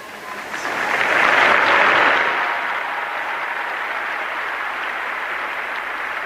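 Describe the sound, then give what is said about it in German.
Applause from many tens of thousands of pilgrims in St. Peter's Square after the Angelus prayer and papal blessing, a broad continuous wash of clapping that swells loudly early on, then settles into a steady roar. “Nun wieder Applaus der vielen Pilger, auch heute wieder viele Zehntausend am Petersplatz.”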